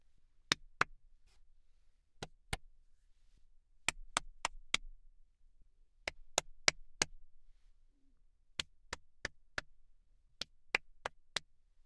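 Sharp, crisp hand claps around a double-walled, acoustically treated voice-over sound booth, first two pairs, then four quick sets of four evenly spaced claps, with no voices in between.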